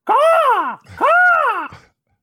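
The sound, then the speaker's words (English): A person's voice imitates an eagle call with two loud, drawn-out cries, each rising and then falling in pitch, separated by a short pause, with no other talking. “That's not an eagle, but I don't know what an eagle is. Definitely doesn't sound like an eagle.”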